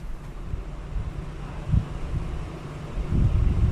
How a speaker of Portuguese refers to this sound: Apenas o vento em plena fúria, discutindo com as árvores e lutando com um plástico pendurado no andar de cima.